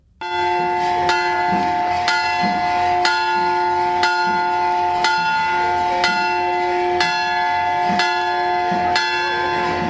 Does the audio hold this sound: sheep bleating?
no